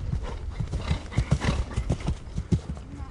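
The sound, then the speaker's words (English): Horse hooves clip-clop in a steady, quick rhythm, loud, with faint background noise and no talking: horses working out, running and jumping, at the Markopolo Olympic Equestrian Center outside Athens. “After a day off for jet lag, the horses got busy at the Markopolo Olympic Equestrian Center outside of Athens. They ran, they jumped, their muscle-bound bodies glistened with sweat.”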